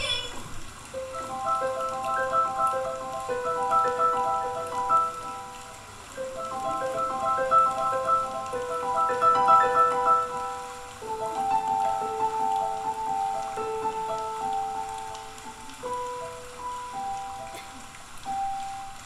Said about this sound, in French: Et au fait, les objets à deviner pour les sons que vous avez écoutés pendant ce reportage, c'était des entonnoirs pour les sabots de cheval et un petit balai en paille ainsi que des pommes de pin pour le crépitement du feu.